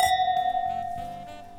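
Wine glasses of Manns Wine Chikumagawa Ryugan 2021, a clear white wine, clink together in a toast, a bright chime that rings on as a clear, high, sustained tone and slowly fades, with a few softer knocks underneath and no talking.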